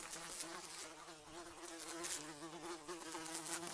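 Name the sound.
flies buzzing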